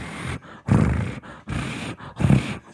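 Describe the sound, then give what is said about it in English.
A person growls out a string of loud, rough lion-like roars, three main bursts with shorter rumbles between them, with no other talking. “I'm a lion. Accurate.”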